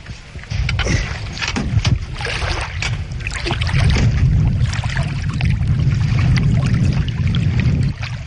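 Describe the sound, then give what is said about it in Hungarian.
A boat is pushed off into the water on a windy day, with scraping, sloshing and splashing over a steady low rumble of wind buffeting the microphone. No one speaks. “Nem tudom, hogy örülök-e ennek, hogy most vízre száll.”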